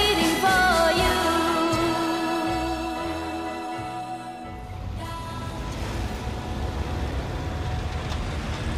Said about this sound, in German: Großstadtlärm, dichter Verkehr in Berlin, am Platz der Luftbrücke. Autos, Busse, Lkw, aus der U-Bahn-Station strömen Dutzende Menschen. Sie hasten aneinander vorbei, viele gucken beim Laufen auf ihr Handy.